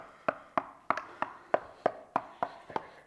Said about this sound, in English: Sound like my kids when they were little and we didn't come the second that we heard the knock at the door. And it just kept going, and like you right now, I just got sick and tired of hearing the knock.